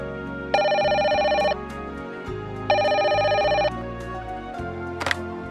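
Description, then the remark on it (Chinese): Two long ringback tones of a telephone ringing on an outgoing call to directory assistance, evenly spaced with a pause between them, followed by a faint click as the line is picked up, over soft background music. “如果我打电话到查号台询问，应该可以找出信封上地址的电话号码。”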